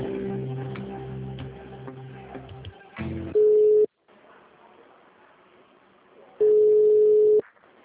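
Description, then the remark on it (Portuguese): A telephone call transfer tone on a call being transferred within Santander: two loud, steady mid-pitched beeps, each lasting under a second, separated by a pause of a few seconds and preceded by murky, buzzing line noise. “Estamos transferindo a sua ligação.”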